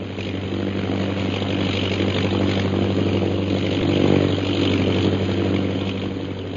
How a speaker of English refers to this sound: It doesn't seem possible that he's come up here alone. The plane's circling the camp. It'll be over us again in a minute. Look.